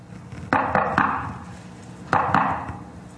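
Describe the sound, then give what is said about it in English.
A patterned secret knock on a door: three quick raps, a short pause, then two more, each sharp and wooden with a brief ringing tail. No one speaks. “There's a knock on the door. It's a secret knock.”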